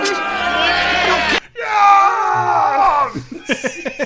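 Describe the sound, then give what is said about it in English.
Several voices yell and scream over one another, loud and strained, with sustained shouts giving way to short, choppy bursts of yelling toward the end. “The first person to start yelling in the background is”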